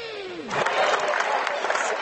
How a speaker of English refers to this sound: once again here at Fort Laramie High School on basketball senior night. Again, the crowd still warming up. Folks out in the lobby coming aboard here in the bleachers.